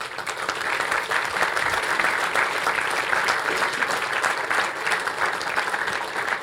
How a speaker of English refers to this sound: Okay, before I close this session, I would like to say a big thanks to all the hardworking angels on this Congress who make this Congress possible. Please give them an applause.